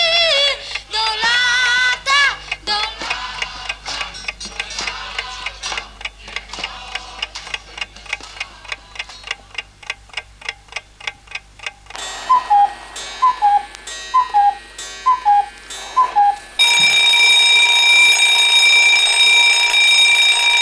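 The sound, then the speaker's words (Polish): A clock ticks steadily and briskly for several seconds, a short run of chirping tones follows, and then an alarm clock breaks into loud, continuous ringing that carries on to the end. “Czy ten twój zegarek kuka, czy dzwoni?”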